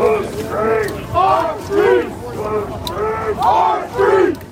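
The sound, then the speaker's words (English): A large protest crowd of thousands, sent over by Trump, arrives at the Capitol, chanting and shouting in rhythmic, rising-and-falling waves, many voices blending into loud repeated cries with a steady roar of people underneath. “The big crowd that Trump sent over was starting to arrive. Thousands of people.”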